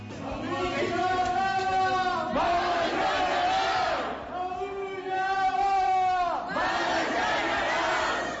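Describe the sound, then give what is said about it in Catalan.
A large crowd protesting on a general strike day chants in unison, loud rhythmic shouted phrases rising and falling in waves, with a brief dip between chants before the voices swell again. “Com sentiu, avui hi ha vaga general”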